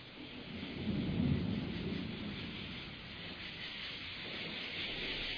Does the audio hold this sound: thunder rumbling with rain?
yes